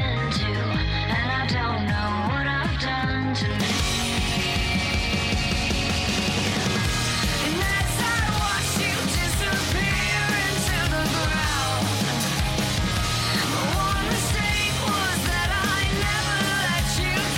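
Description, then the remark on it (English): A loud, dense full-band song from a new album plays continuously, with a sung vocal line over driving drums and heavy instruments; the mix opens up and grows brighter after a few seconds. “That's off the new album”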